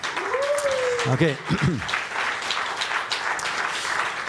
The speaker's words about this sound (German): Okay, ihr klatscht, ohne zu wissen, wofür ihr klatscht. Ist immer gut, wenn man Leute wertschätzt, auch einfach so für das, wer sie sind.